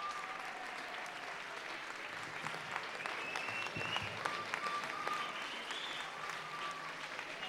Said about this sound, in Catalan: Els quatre, amb la samarreta de color lila, amb una imatge amb el nom del Ball de Gitanes i els aplaudiments que es multipliquen.